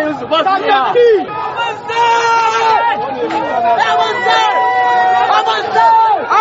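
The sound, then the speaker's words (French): A protest crowd against the finance bill marches toward the Place de la Concertation, opposite the Parliament. Many voices shout and chant at once in a loud, continuous, overlapping roar with rising and falling yells. “Les organisateurs sont débordés et la foule décide de marcher.”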